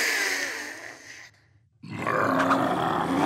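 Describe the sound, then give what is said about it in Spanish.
A person grunts loudly in two rough, throaty bursts separated by a brief silence, the second grunt longer and more growl-like than the first. “¡Si tenés muchas ganas de gruñir!”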